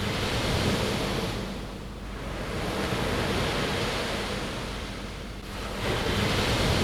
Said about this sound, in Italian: ed è da questa posizione privilegiata che cominceremo a confrontarci con la realtà della Tanzania, quando, dopo una bella dormita, le onde dell'oceano ci danno il nostro primo risveglio in Africa.